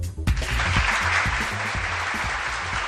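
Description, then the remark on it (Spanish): Sustained applause from a crowd, a dense steady wash of many hands clapping that starts abruptly and stays loud throughout, with some low rumbling beneath. “Y este aplauso porque la ciudad de Valladolid va a acoger este domingo la 20ª edición del Open de Valladolid de Aerostación Trofeo Diego Criado del Rey en el marco de estas ferias y fiestas de la Virgen de San Lorenzo.”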